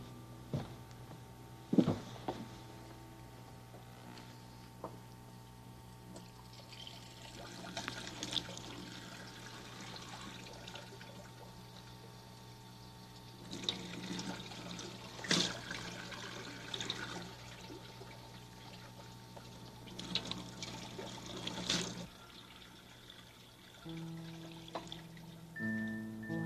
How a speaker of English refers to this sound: Let's try that with the water in the kitchen sink. Okay?